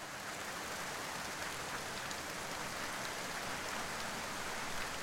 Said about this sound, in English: In the rain, just keeps on coming down.